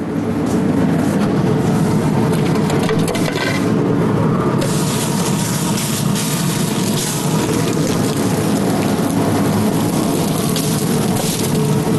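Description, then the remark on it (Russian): Pork sizzles in a hot frying pan without oil as it is browned, a loud, steady hiss with dense crackling that grows brighter and sharper partway through, continuing unbroken with no voices. “Собственно, у нас нагрелась сковородка, и мы начнем обжаривать наше мясо.”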